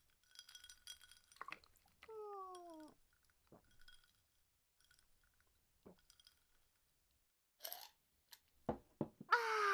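Glasses clink together in a second toast after tea is poured, leaving a bright lingering ring, followed by quiet pouring or sipping sounds and a few soft clatters. No one speaks.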